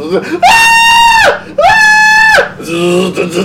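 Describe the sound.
A person imitates the terrified scream of a crop-duster pilot attacked in his cockpit in a movie scene: two long, loud, high-pitched wails, each held for about a second with a brief break between, then a shorter, lower vocal sound trailing off.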